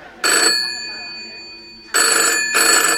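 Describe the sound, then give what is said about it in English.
The bell of an original, still-working 1925 telephone in a phone box rings loudly in three metallic bursts: one short trill, a pause, then two longer rings in quick succession. “It's ringing. It's ringing. It still works. I mean, this is a real phone like it was back in 1925.”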